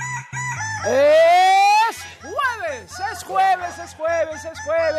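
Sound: rooster crowing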